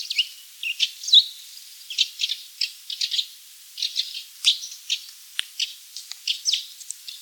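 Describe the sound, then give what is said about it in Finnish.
Tree sparrows give short rising 'juit' calls mixed with dry, rasping 'räk' chatter, a busy run of clipped notes in irregular bursts, clear with no voices. “Seuraavassa kuullaan sekä juit että räk, räk ääntä.”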